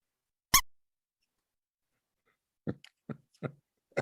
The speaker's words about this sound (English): And there you go with the squeaky toy.